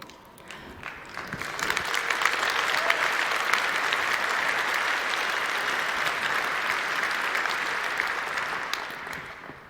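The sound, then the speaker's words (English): A crowd applauds steadily for about ten seconds, a dense wash of many hands clapping at once that swells quickly, holds full and loud, then tapers slightly at the end. “I think it's worth clapping for, like, because these are people's lives, right?”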